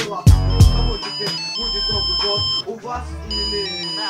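A musical phone ringtone plays loudly and continuously, an electronic melody with sustained high tones over punchy, repeating deep bass notes and a few sharp percussive hits near the start.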